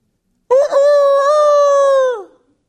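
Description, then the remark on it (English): A single loud rooster crow: a rough start that stretches into a long, steady harmonic call and trails off with a downward drop after about two seconds. “Luke 22:34, and the Lord Jesus Christ said, I say to you, Peter, the rooster will not crow today until you have denied three times that you know me.”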